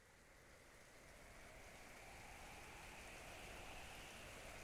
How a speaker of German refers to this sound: 31. Dezember 1916. Regen und Sturm.